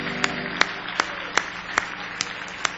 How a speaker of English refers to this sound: Give the Lord another good hand clap of praise.